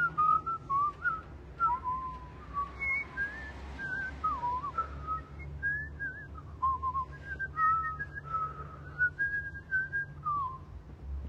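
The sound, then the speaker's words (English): Whistling carries a wandering, tuneful melody for the whole stretch, clear, with short phrases and sliding notes over a steady low rumble in the background. “He continues to look through the binoculars as they whistle.”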